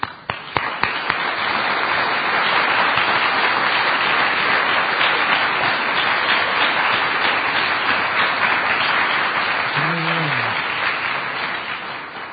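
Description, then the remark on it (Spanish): Sustained applause from a large audience at a 2013 annual meeting in Pilar, Buenos Aires, Argentina, a dense steady wash of many hands clapping for about twelve seconds, with a brief voice near the end before it tapers slightly. “Pensé que me iban a fallar con el aplauso.”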